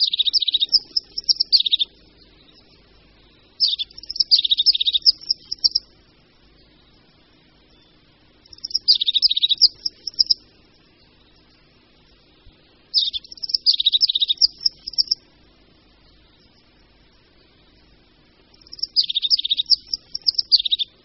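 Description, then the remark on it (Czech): Five short bursts of high, trilling crested tit calls repeat about every four seconds, clear, with quiet pauses between them and no voices. “Je to sýkorka, která obývá především souvislejší jehličnaté lesy, takže příležitost, aby ji mohl člověk pozorovat někde v lidských sídlištích, prakticky nenastává.”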